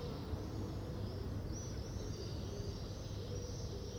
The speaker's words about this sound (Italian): Arrivo davanti al Duomo e tutto quello che si può sentire, ancora, sono uccelli.